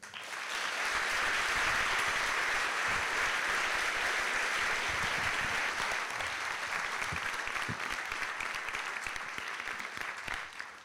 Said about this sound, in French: Merci d'applaudir